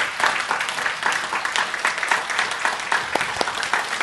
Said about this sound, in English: On the Mother's Day banquet and everyone who worked behind the scene, please stand up and we want to give you applause.